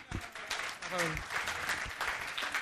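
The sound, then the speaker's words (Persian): An audience applauds steadily, a dense wash of many hands clapping, while a voice speaks briefly over the noise. “نفر بعدی تشویق بکنین.”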